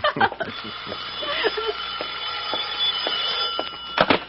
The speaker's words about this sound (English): Well, the street to your phone is ringing.